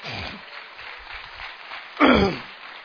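An audience applauds the people of El Salvador in a steady, dense patter of many hands clapping, swelling noticeably louder for a moment near the end before continuing.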